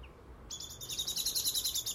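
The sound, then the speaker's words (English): A female blackbird calls in a rapid, repeated series of bright chirping notes that begins half a second in and continues steadily, clear over a quiet outdoor background with light spits of rain. “That's Mrs. Blackbird.”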